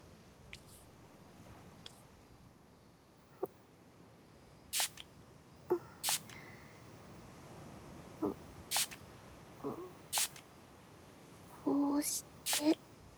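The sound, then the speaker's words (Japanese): Several quick, crisp spritzes from a small portable spray bottle of alcohol sanitizer, spraying the leftover alcohol onto a person's two hands, about six short hissing bursts at irregular intervals over a quiet background. “まずは残ったアルコールを。先生、両手をお貸しください。”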